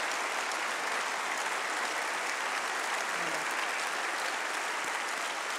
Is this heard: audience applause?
yes